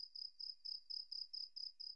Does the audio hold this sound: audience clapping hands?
no